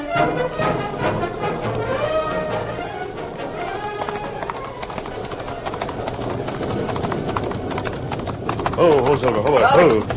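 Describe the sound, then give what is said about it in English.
Horse hooves clip-clop in a steady, continuous rhythm as a horse is ridden double, mixed with bird chirps and a busy outdoor backdrop, while voices talk intermittently over the sounds. “I'll ride double on my horse.”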